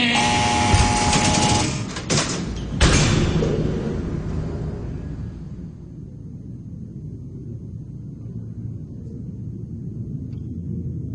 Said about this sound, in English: And so when there is a noise, it's just nerve-wracking. Coming onto the tier, it's a heavy steel door, and it opens electrically. Which means you hear.